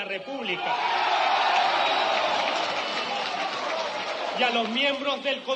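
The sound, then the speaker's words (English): A large crowd of supporters chants "democracy, democracy" together, a loud, dense wall of voices that holds steady throughout, with a few individual voices rising above the mass near the end. “crowd of supporters chants, democracy, democracy.”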